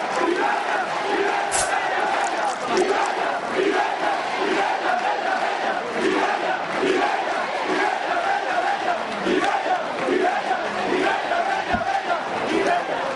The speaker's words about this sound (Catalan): Ara, de nou, es guanya aquest aplaudiment.